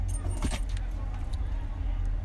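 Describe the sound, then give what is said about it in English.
Keys jangle in a few quick metallic shakes over a steady low engine rumble, as if inside an idling car. “You have my keys? No, your keys right here.”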